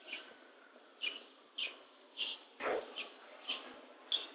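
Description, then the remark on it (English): Birds living inside the huge waiting area of a Los Angeles railroad building chirp in short, bright bursts roughly every half second, their calls echoing faintly over a soft, steady hum. One louder, fuller chirp stands out midway. “It's got a huge waiting area, and as you can hear, there are plenty of birds that live in here now.”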